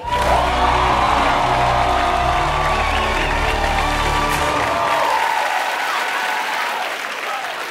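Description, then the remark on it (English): The Daily Show studio audience claps and cheers steadily as Roy Wood Jr. delivers the show's annual State of the Black Shit address, with whoops rising over dense, sustained applause that stays loud throughout and thins only slightly toward the end. “You can just clap as Roy Wood Jr. delivers The Daily Show's annual State of the Black Shit address.”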